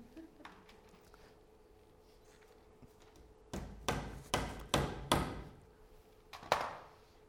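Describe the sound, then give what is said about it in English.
A hammer drives a nail through a piece of paper into a wooden cross at the front of a church: about five sharp, loud knocks in a steady rhythm, then a short pause and one final strike, after a quiet stretch of low background noise. “just nailed a piece of paper that literally says the law against us to the wooden cross we have here at the front of the church.”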